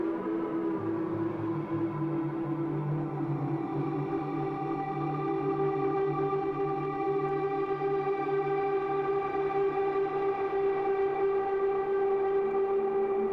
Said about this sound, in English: I brought this cool little granular thing called a Pladask backlangs, and it's getting a stereo signal out of the rooms, which is where you're getting this beautiful reverb. Let's listen to this.